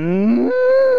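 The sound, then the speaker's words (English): A single drawn-out moo imitated by a human voice as a cow impression, loud, rising in pitch then holding steady for about a second with rich harmonic buzz. “That was my cow impression.”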